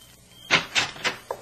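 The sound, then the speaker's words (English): A door being opened: three short scraping, clattering bursts in quick succession and a faint click at the end, fairly quiet and with no voices. “Sailor, get decent and open the door.”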